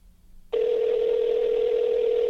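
After a brief near-silent moment, a steady telephone dial tone switches on as a phone call is placed, holding at a constant pitch, loud and unbroken, with no voices present.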